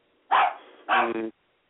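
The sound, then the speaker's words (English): A dog barks twice, loud, with a short pause between the two barks. The second bark is longer and slightly broken. No other sounds are present. “Y'all hear the dog? Y'all hear it?”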